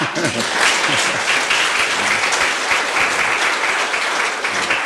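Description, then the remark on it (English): Sustained applause from an audience, a dense, steady crackle of many hands clapping at even loudness throughout, with faint voices briefly audible at the start. “You don't want to clap. Wollt ihr da nicht klatschen?”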